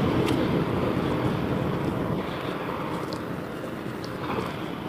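truck driving past

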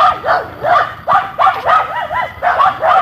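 dog barking

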